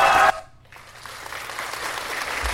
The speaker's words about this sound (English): Let's give a mighty long cheer. Let's give a hand clap.